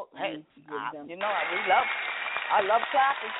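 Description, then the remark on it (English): A voice speaks briefly, then a steady wash of audience applause for past Salute a Youth candidates rises and continues to the end, with voices still talking over the clapping. “Let's give another round of applause to all of our past Salute a Youth candidates.”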